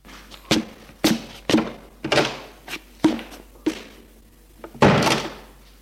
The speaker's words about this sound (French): Lorsqu'il prend sa douche, il entend Maurice qui essaye d'ouvrir la porte de la salle d'eau.